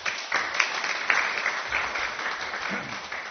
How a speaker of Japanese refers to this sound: 先生、拍手を持ってお迎えしたいと思います。